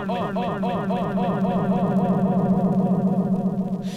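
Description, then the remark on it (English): A sustained singing voice drenched in heavy, exaggerated echo, each phrase smearing and repeating into a dense, wobbling wash of reverberant tone that stays loud throughout. “That's too much echo.”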